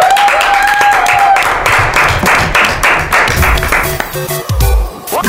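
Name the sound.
applause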